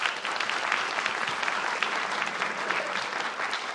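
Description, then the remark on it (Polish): Steady, dense applause from a large audience in a hall, many hands clapping together in a continuous bright patter that holds an even loudness throughout, with no voices standing out, greeting a team of film critics just introduced at a festival event. “Radość na sali, jak słychać, ogromna.”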